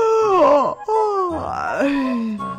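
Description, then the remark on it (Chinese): A voice imitates a big bear's long, sleepy yawn, a drawn-out groaning moan that rises and sinks in pitch, then trails off in a low, drowsy tail, fairly loud, as the bear in a story about a bear and a rabbit yawns while speaking. “大熊打着哈欠说”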